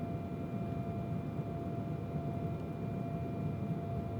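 A steady, enveloping airplane cabin drone in flight aboard a plane hijacked at Lagos: dense low rumble with a faint constant whine on top, holding an even level throughout with no voices.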